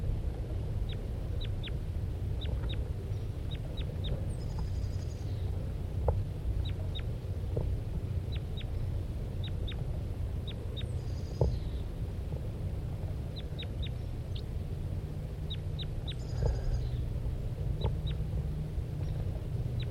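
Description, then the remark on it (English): A male bird calls repeatedly near its nest while the female is on the ground, giving bursts of short, thin, high-pitched notes with occasional harsher buzzy calls, over a steady low background rumble. No one speaks. “Start recording the male while the female's now on the ground.”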